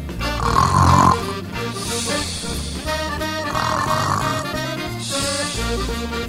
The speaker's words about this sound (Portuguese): A ovelhinha ressonava baixinho encostada às orelhas do lobo.